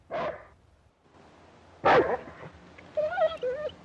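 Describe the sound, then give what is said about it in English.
A dog standing on a rock outside a log house with a stone chimney stack on top of a hill gives a sharp bark near the start and another louder bark midway, then lets out a series of high, wavering whimpers toward the end. “A dog is standing on a rock outside the house.”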